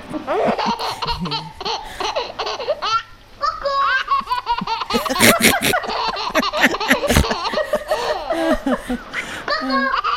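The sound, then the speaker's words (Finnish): A baby laughs in repeated bright bursts and squeals, heard through a played Finnish video with other people's laughter and voices mixed in, fairly loud and continuous for the whole stretch. “Siinä vauva nauraa.”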